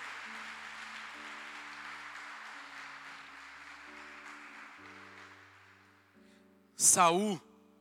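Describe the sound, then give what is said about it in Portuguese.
An audience applauds over sustained keyboard chords, the clapping thinning and fading over several seconds before a single loud voice calls out briefly. “Dê um forte aplauso, Senhor.”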